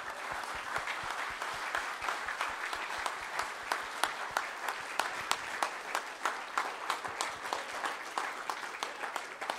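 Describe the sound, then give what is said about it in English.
A church audience applauds the kids for several seconds at a morning service, a dense wash of many hands clapping with a few sharper, louder claps standing out at an even rhythm. No one speaks. “Let's show them our appreciation with our hands this morning as we give them a round of applause.”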